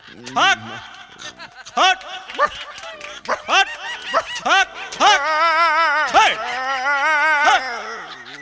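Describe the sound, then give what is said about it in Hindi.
A dog gives a rapid series of short, sharp barks and yelps, then breaks into a long, wavering whine that rises and falls for a couple of seconds. “रे साला हटाओ ना रे कुत्ता को, हटाओ ना कुत्ता को, मारो साला को।”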